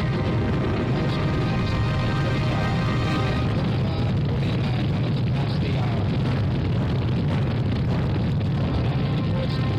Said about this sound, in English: We have ignition sequence start. Engines on. 5, 4, 3, 2. All engines running.